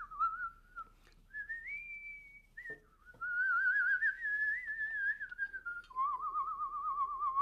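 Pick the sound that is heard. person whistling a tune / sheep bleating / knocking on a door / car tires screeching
person whistling a tune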